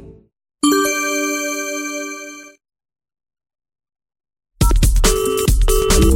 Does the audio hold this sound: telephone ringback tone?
yes